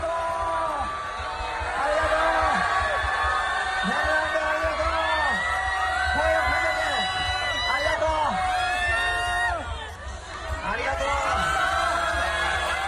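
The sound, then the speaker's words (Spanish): A large crowd of Japanese fans cheers and shouts continuously for Fernando Alonso, many voices overlapping in rising whoops and calls that stay loud throughout, dipping briefly before surging again. Recorded by Fernando Alonso on his mobile phone. “Escuchen cómo quieren los japoneses a Fernando Alonso. Esto lo ha grabado Fernando Alonso con su móvil.”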